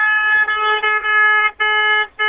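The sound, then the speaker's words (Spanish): A radio station van's horn honks loudly: one long sustained blast followed by two shorter ones, a brassy, steady tone with no voices in between. “Ahora que me meto en la camioneta de la radio y toco bocina, a ver qué onda.”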